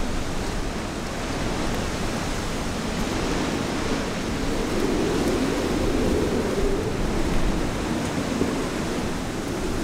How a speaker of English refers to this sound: The storm's blown in, and the wind is howling through the town at 40 or 50 miles an hour.